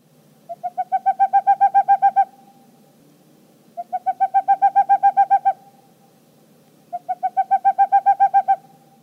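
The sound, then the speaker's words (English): A boreal owl gives three bursts of rapid, evenly spaced hooting notes, each run lasting about two seconds with short pauses between, clear over a quiet background. “Boreal owls, their vocalization is a series of notes that they kind of repeat rapidly.”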